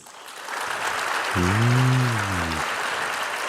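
Audience applause swells in and holds as a steady, dense wash of clapping, with a low sustained tone, like a horn or drawn-out shout, rising over it for about a second in the middle.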